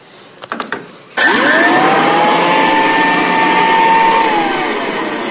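A few mechanical clicks, then a museum's still-working electric vacuum cleaner, made in January 1910 by the Royal Company, switches on with a sudden loud whoosh, its motor whine rising in pitch as it spins up, then droning steadily.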